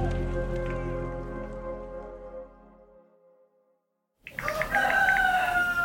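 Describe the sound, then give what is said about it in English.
After a fading, ringing musical tone and a moment of silence, a rooster suddenly crows loudly, a single strained cock-a-doodle-doo with no talking. “Oh, I hear a rooster.”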